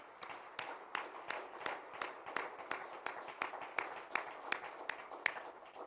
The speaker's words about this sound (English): So we appreciate every one of these people that helped, and let's give them one more big hand clap.